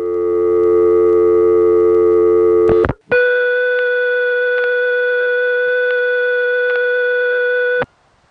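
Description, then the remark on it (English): A steady, loud telephone dial tone on a crossbar 5 exchange line left off hook without dialing hums for a few seconds, cuts out briefly, then gives way to a higher-pitched continuous high tone that holds for about five seconds before stopping abruptly. “The dial tone is replaced by high tone.”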